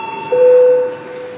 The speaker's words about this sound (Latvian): Lūdzu zvanu, balsosim par pirmo deputāta Dombravas iesniegto priekšlikumu.